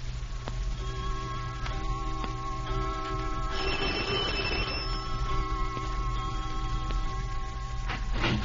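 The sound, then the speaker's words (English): A clock chimes nine times, each resonant bell stroke ringing out at a steady, unhurried pace and lingering into the next, with a faint low hum beneath and no voices. “15 minutes later, as the clock strikes 9, Dr. Ferguson arrives.”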